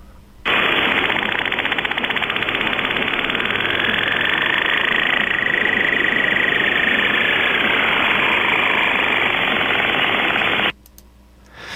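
A signal sped up into the audible time range: a loud, steady cicada-like chirring buzz, dense and rapidly pulsing, runs for about ten seconds with a faint high whine gliding through the middle, then stops abruptly.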